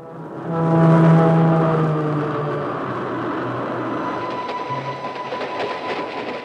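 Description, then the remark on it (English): A train rumbles steadily along the tracks, with rhythmic clicking of wheels over rail joints. A low horn-like tone sounds near the start, then fades into the continuous rolling clatter. “1,275 episodes in all, beginning on a train.”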